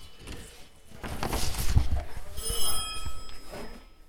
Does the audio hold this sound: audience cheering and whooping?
no